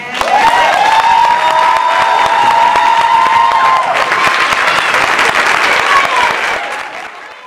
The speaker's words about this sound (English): So Jessica Brown ended our 2018 Brown Mama Monologue show with that story to a roaring applause. Like, it was just so fantastic.